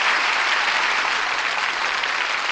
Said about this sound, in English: That applause says it all.